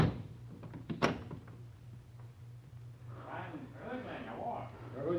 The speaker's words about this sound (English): I lock the door.